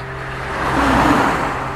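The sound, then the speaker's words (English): A single car passes by on the road, its tyre and engine noise swelling to a peak midway and then easing off over a steady low hum, with no one talking. “The camera is pointed directly across the road, so I can have a good stare and keep an eye on details such as the colour of the cars passing by, you know.”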